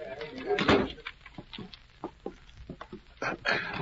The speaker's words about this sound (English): Come on in. Close the door.